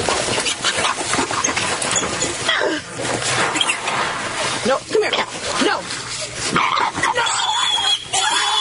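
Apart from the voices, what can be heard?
pig squealing and grunting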